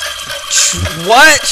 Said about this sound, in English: what was that noise? What was that? That was a timer. It was a crazy timer.